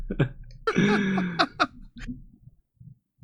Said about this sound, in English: it was just like building up more and more in me. Sounded terrible. It's terrifying. Sounds like you're going to throw up. Yeah, you're like rapidly devolving. I was trying to finish my thought while holding in the burp.